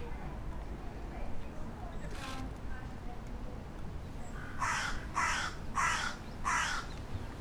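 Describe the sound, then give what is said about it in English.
Four harsh crow caws in quick, even succession near the end, loud, following a quieter stretch with a faint earlier call over a low, rumbling background. “ladies talking crow. Yeah, yeah, crow.”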